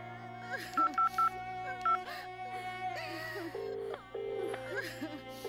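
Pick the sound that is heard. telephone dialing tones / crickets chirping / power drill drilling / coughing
telephone dialing tones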